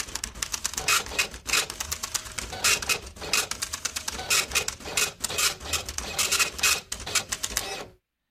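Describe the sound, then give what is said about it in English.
A printer prints a page, with loud, rapid mechanical chattering and clicking bursts repeating steadily for several seconds, then stopping abruptly. “I got the printer there.”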